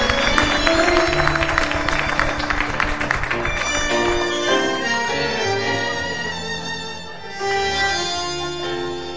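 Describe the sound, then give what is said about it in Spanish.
An audience at the Michelangelo night bursts into loud, dense applause for the friends from England who are present. The clapping lasts several seconds and fades as music with sustained tones takes over and carries on to the end. “Un aplauso para ellos.”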